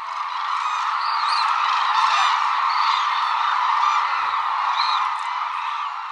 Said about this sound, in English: Most of the world's hooded cranes winter at one reserve on Japan's southern island of Kyushu, calling together around sunset.